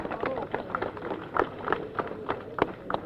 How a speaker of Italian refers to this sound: Un applauso.